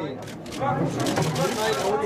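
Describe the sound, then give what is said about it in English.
Rapid camera shutters click repeatedly over a steady murmur of many voices, a gathered media crowd talking at once at a German aquarium as an octopus slowly flops into a plastic box, continuous throughout. “It's the clicking of camera shutters, the excited murmur of the gathered media, as an octopus slowly flops into a plastic box.”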